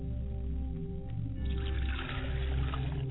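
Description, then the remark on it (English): Liquid is poured out as a libation to the ancestors, toward each direction, in a steady, continuous stream, splashing and trickling. The sound grows brighter and fuller partway through, with no voices. “I'm going to pour libations to the east, and then to the west, and then to the south and north and east.”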